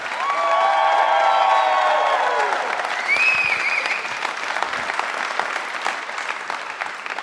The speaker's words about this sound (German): Und das war gut abgehangen live! Weil mit nach so einem Applaus besser wird's nicht mehr.